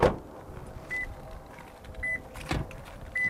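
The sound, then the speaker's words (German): A car's door-open warning chime beeps steadily about once a second as a car stops and someone gets out, with a solid thud at the start and another clunk midway, moderately loud with no talking. “hält das Auto an, steigt aus und blickt auf die Szene.”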